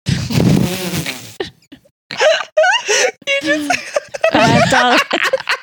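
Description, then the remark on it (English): A short, low, buzzy fart sounds, followed by bursts of giggling and breathy laughter from a couple of people. “I don't know why that was so funny, but I just farted a little.”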